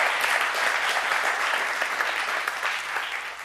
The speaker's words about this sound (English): Let's give him a big round of applause and thank him for his work.